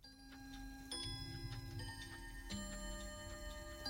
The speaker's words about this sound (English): one of many clocks on his wall begins to chime. It's 8 o'clock. The cuckoo clock door opens.